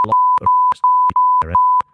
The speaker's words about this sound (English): Which is probably illegal, so I'll probably beep that out.